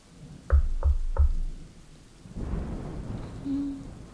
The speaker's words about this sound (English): The storm is so loud.